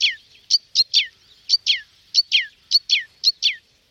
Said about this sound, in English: Sadly, like many of our songbirds, they were caught and caged to bring song into Victorian salons. And the crossbill was very popular, as it had up to 3 different songs, especially around Christmas. The Christmas finch.